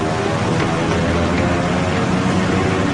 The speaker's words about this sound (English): As a last resort, the water bomber pilots throttle up to get back into the air.